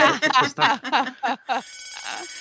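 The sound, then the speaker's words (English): A person talks briefly, then a bell starts ringing, a steady, high, shimmering tone with layered overtones that sustains to the end. “Yeah, I think that we're going to set the dog off with the bell.”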